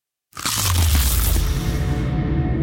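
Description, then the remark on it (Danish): A loud crunchy bite into a new McDonald's McCrispy crispy chicken burger, an attempt at a silent bite, bursting in after a moment of silence and continuing as a dense, crackling chew with no one talking. “Det her var et forsøg på at tage en lydløs bid af den nye knasende kyllingeburger McCrispy.”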